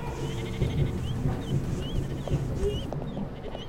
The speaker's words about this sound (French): Mais qu'est-ce que... J'ai jamais appelé les moutons!